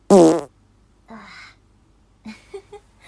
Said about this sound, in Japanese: 疲れたので布団でゆっくりしてます。おなら出そうなので出します。